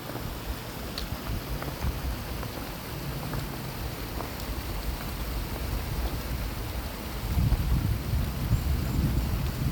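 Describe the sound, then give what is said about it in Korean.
A mountain stream on Sobaeksan flows in a steady, dense rush of bubbling water with no voices, the churning growing slightly fuller and louder toward the end. “두루님의 소백산 시냇물 소리 들으면서 마무리하겠습니다.”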